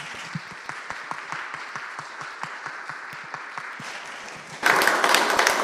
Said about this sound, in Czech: A já si myslím, že bychom dětem mohli zatleskat. Pojďme jim zatleskat.